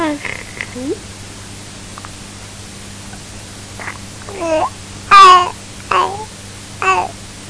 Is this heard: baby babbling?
yes